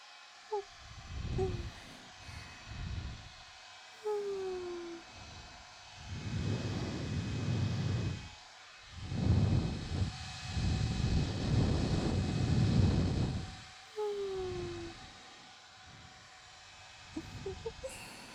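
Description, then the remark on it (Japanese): A hair dryer blows in long, rushing surges of airy noise that swell and fade several times, with brief quieter gaps and faint clicks between; no one speaks. “乾かしてゆくぞ。”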